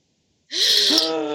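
After a brief silence, a group of people gasps sharply all at once as the Balmera shakes all over, a loud breathy intake with a voiced edge that lingers for about a second.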